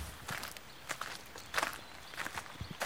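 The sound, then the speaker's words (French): Footsteps walking through a shared community garden in the rain, a steady series of soft crunching, rustling steps at an unhurried pace over a quiet background hiss, with no one talking. “Alors là, aujourd'hui, sur le jardin partagé, on peut aller faire un tour, passer par là.”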